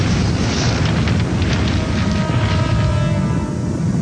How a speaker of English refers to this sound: The second explosion sends the submarine plunging to the seabed. At close range, the Memphis itself is seriously shaken by the shockwave.